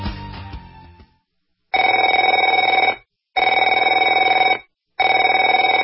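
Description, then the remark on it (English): A telephone rings three times in even, steady bursts with short silent gaps between, a loud buzzy trill, after a brief fading sound at the start. “Afraid to answer it?”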